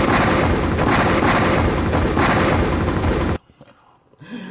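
A loud, roaring explosion sound effect rumbles for about three seconds with pulsing bursts, then cuts off abruptly into near silence, followed by a faint low murmur.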